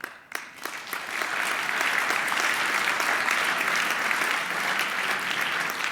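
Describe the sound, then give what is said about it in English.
An audience interrupts a speaker with steady, sustained applause, dense clapping that swells quickly after a brief start and holds at an even, loud level throughout. “You are aware with your applause interruptions that we have limited time here, huh?”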